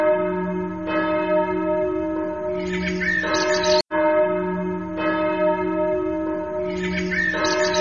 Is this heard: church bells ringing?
yes